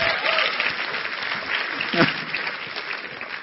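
A crowd claps steadily in a dense, even wash of applause for a few seconds, with a brief voice or cheer rising faintly in the middle.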